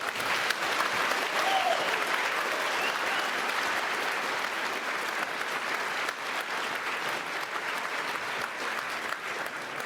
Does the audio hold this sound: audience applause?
yes